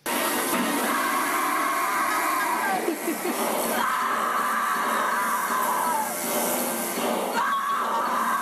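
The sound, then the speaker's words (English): A loud, drawn-out final scream from a movie's last shot, where the character Stretch swirls a chainsaw on a mini golf mountain, rising and falling in pitch over a constant, rasping, buzzing roar of a voice imitating a revving chainsaw, running unbroken throughout. “the last shot of this movie is Stretch holding the chainsaw up on this mini golf mountain, swirling it around, kind of sexy, where she's like, "Ah, can we play the scream, the final scream, and I'll do the chainsaw for you?"”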